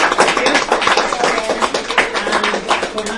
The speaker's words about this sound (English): So a round of applause, please, for Kim and Aaron Craig.